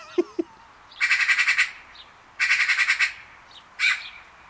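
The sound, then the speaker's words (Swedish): A person imitates a magpie's harsh, rattling chatter in three bursts: two longer runs of rapid clacking notes, then a short final squawk, fairly loud with no talking. “Utan en skata, ja, du kan väl, kan du försöka ta och imitera en skata?”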